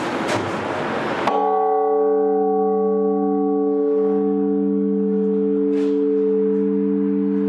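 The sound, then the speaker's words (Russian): The first strike of newly installed church bells: a single loud strike cuts through a burst of noise, then its deep, layered tone rings on and slowly fades over several seconds. “Но пока долгожданный первый удар.”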